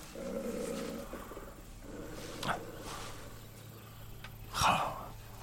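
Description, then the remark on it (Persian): A wounded wolf lying on the ground with its leg caught in an iron trap growls low and steadily, the rumbling snarl rising into two short, sharper bursts near the end, fairly loud with no one speaking. “میرسه به حیوان زخمی که روی زمین افتاده. چی شده رفیق؟ تو گرگی؟”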